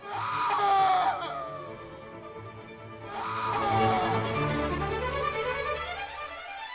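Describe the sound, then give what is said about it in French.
Two long, anguished wails of suffering souls in the underworld swell and sink in pitch, layered screams and moans blending into an eerie chorus over a low, steady rumble, with no clear words spoken. “L'air y était irrespirable, plein de souffrance et de cris.”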